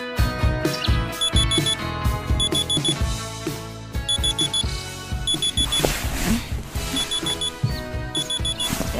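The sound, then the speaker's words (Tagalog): A phone alarm rings in a repeating pattern of bright, high beeping bursts, roughly every one to two seconds, layered over a dense musical backing throughout. “Na ba yung phone ko?”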